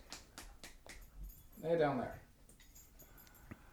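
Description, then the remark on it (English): Light metallic jingling of a dog's collar tags, a quick series of bright clinks in the first second, followed by a brief voice-like sound and a few softer jangles. “Interesting radio, listening to the dog jingle. Jingle jangling around.”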